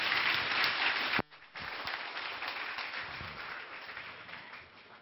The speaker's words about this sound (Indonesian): Tepuk tangan sekali lagi kita untuk Bante Utama Mahathera.